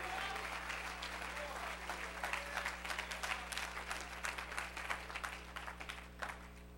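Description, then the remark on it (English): A crowd applauds with a hand clap of praise: dense, steady hand clapping for several seconds, the sharp claps blending into a continuous roar over a low, constant hum. “Come on, let's give him a hand clap of praise for just a moment.”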